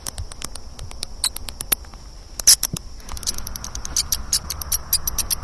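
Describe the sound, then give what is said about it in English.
High-pitched bat squeaks chirp rapidly in quick, irregular bursts, growing denser and busier in the second half, with a soft rustling patter underneath and no talking. “Let's listen to the sound of some bats.”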